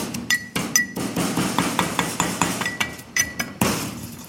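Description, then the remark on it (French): A pestle pounds a hot bird's eye chili and salt in a mortar: a quick, steady run of dull thuds, about four per second, some strikes giving a bright ringing clink. No one speaks. “Dans un mortier, pilon, qui vient de très loin celui-là.”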